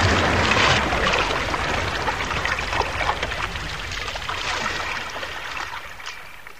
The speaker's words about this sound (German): Wir purzelten alle drei ins Wasser. Das Boot schwamm Kiel oben.